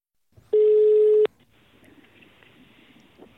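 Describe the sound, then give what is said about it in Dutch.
A single loud electronic telephone tone, held steadily for under a second and cut off with a click, followed by a faint hiss of an open phone line. No one speaks. “Ik bel nog wel een keer.”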